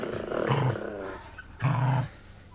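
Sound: dogs growling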